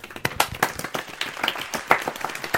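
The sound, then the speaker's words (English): A modest, polite round of applause from a small group as Edison steps out for the reveal of his next big thing: steady overlapping claps at moderate volume, neither loud nor enthusiastic, with no voices standing out. “steps out, and led by Hamid, I believe it was, there's a polite round of applause.”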